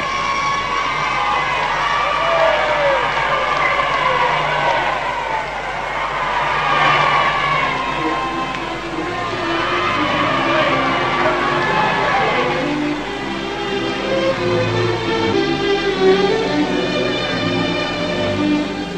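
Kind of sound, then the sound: crowd, crowd cheering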